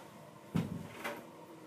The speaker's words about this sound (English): Let me just close the door real quick.